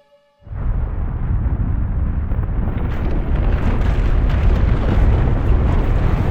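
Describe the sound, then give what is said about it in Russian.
A sudden, heavy distant roar from something happening in the village of Uskal, heard through a slightly open door, bursts in and keeps rumbling without pause, deep and loud, like a rockfall or a river dam giving way, with gritty crackling rising over the low thunder as it goes on. “Далекий рев проник в сени через приоткрытую дверь. Это было похоже на звук камнепада или прорыв запруда на реке.”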